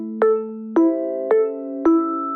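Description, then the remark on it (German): A BVG public transport special announcement gong (Sondergong), which signals passengers to listen, rings out alone: four bright, resonant chime strikes in quick, even succession, each tone ringing on and overlapping the next, clear. “Und dann gibt es den Sondergong, der klingt dann schon sehr anders, der einfach klar macht, so Leute, jetzt mal zuhören.”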